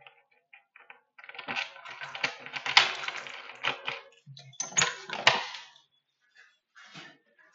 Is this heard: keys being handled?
yes